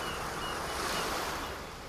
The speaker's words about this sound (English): The sound of the ocean, both on the surface